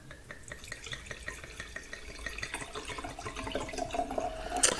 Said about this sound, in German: dieses sympathische Geräusch gab, wenn der Wein dann das Glas berührt, quasi das Glas küsst. Deswegen genießen wir diesen Moment jetzt ganz kurz gemeinsam.